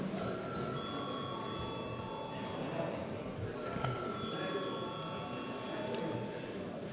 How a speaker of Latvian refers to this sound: Debats beidzam. Vai deputāts Dalbiņš vēlas kaut ko komisijas vārdā piebilst? Tādā gadījumā lūdzu zvanu.